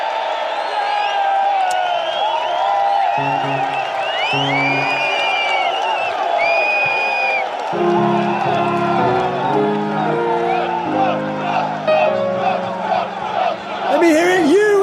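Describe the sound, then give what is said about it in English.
A large crowd cheers Trump, whooping with scattered shouts and clapping in a dense, continuous roar, while layered voices and bursts of chanting rise through it. “They cheer Trump.”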